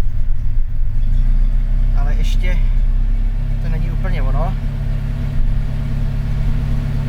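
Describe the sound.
A car engine runs at a steady, loud low drone with a faint bearing whine mixed in, while a man speaks briefly over it.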